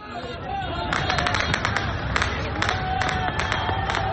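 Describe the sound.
A large crowd of protesters in Martyrs Square, Tripoli, Libya, on Sunday evening cheers and shouts "Libya! Libya!" after shots are heard, in a dense, continuous roar, with sharp bursts of higher-pitched yells and whistles rising above the steady babble of many voices.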